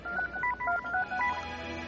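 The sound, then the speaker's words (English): A quick run of telephone keypad dialing tones, roughly eight short dual-pitched beeps pressed in rapid succession, clear over a faint steady background hum, with no talking. “Not the only one who can talk on the phone.”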